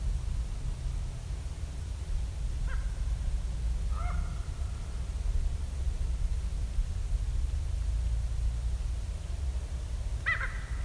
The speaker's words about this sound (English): all those monkey-like sounds? Ravens. Okay, that last one wasn't a raven. But if you listen closely coming up, you'll hear a little trill.